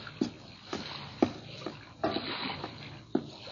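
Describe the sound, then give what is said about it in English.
Water swishes and laps steadily while soft splashes recur every half second or so, like paddle strokes, as Tarzan glides a native canoe through the shimmering sea water at night. The sounds are gentle, with no voices. “Tarzan waited until night descended over jungle and sea, and then he glided through the shimmering water in a native canoe.”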